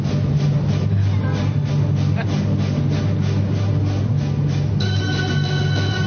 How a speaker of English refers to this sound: So my alarm went off, but I wasn't quite ready to get up yet, so I switched it off.